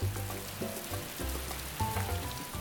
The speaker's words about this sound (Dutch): Hij doet zijn ronde als de zon schijnt, maar ook als het regent. Maar het lijkt wel of het altijd regent.